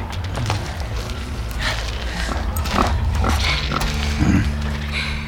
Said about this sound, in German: Die Wildschweine! Keine Panik, Freunde, die tun uns nichts.